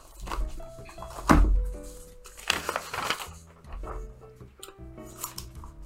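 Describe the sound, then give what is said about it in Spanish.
A handful of crisp, crunching snips from Felco pruning shears cutting through stems, spaced irregularly, with a steady tonal hum running underneath. “Esto es cómodo de usar, limpia, corta perfectamente y le va a durar una eternidad. Felco, las tijeras Felco, estimados amigos.”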